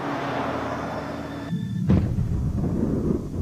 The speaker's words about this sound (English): At this very moment, an explosion takes place in the front of the submarine in the torpedo compartment. The general alarm is sounded. A breach has been torn in the double hull.